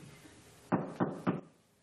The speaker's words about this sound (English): Ah, there's another knock at the door.